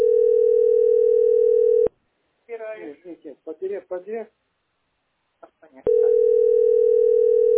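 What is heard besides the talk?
telephone tones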